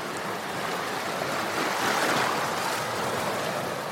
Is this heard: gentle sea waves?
yes